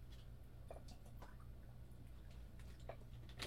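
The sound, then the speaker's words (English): Someone drinks unchilled water, with a few soft, scattered gulping and dripping sounds over a steady low background hum. Nobody speaks. “This water would have been great if I'd chilled it.”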